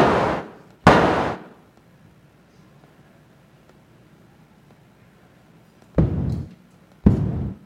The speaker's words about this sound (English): So maybe when there's a bit of that noise has been filtered out, then it kind of sounds like cannon fire in the distance or something like that.